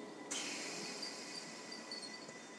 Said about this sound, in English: I've got a train coming. I wonder if this is mine. I think I'm going to get on it anyway.